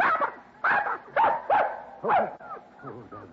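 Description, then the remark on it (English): Six puppies yip in a quick string of high, squeaky little barks, about five bursts, then softer whimpering yelps trailing off at the end. “Puppies, darling. Yes, sir. Six of them.”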